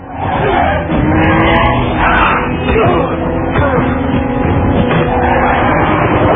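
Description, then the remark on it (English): A loud, continuous car chase as the driver tries to shake off pursuers while dodging bullets: engines roar and tires screech and skid without a break, the dense mechanical din staying intense throughout. “在他一边开车一边躲避着子弹的同时，还要应付从后备箱里挣脱了束缚的 Frost 的袭击”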